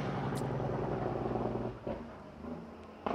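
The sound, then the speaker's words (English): A heavy vehicle rumbles past outside, its low engine drone loud and steady for about a second and a half before fading, with a faint hiss and shift as it moves away. “Let the truck go by.”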